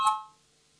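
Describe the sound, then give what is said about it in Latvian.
A single bright bell chime, rung in parliament to call a vote on a proposal by Justice Minister Bordāns, rings out once, loud, then fades quickly into quiet. No one speaks. “Lūdzu zvanu, balsosim par 23. Tieslietu ministra Bordāna priekšlikumu.”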